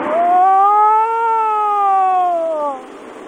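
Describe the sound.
A person imitates an automatic hand-crank siren of the kind bought at CVS Pharmacy, with a sustained, wavering voiced tone that slowly rises in pitch, holds, then falls away over about three seconds, loud and alone.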